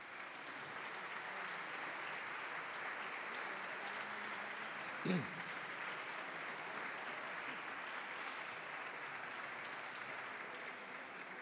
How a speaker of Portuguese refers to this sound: Uma nota para dizer que estão presentes na galeria um grupo de 38 pessoas da Universidade Sénior de Penela, Coimbra. Agradecia o aplauso para eles.